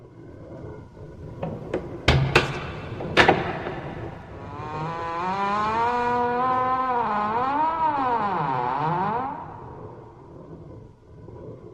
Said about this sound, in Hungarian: Végre fölemelte esernyője nyelét, mely egy rész kacsafejben végződött, és megkopogtatta vele a kastély szögekkel kivert izmos tölgyfa kapuját, mire az legott csikorogni kezdett, mint valami élő lény, és megfordult sarkaiban.